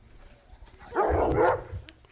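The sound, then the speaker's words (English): Artificially enlarged terriers bark and yap in a short, excited burst while hunting rats in crop fields, rising suddenly mid-clip and fading out again, with faint background noise before and after. “Artificially enlarged terriers loosed in the fields of the fast crops.”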